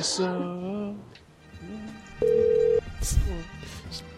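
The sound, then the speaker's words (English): A telephone rings unanswered, a single steady electronic ring tone, brief and fairly loud, with voices talking before and after it. “She's probably too freaked out to answer.”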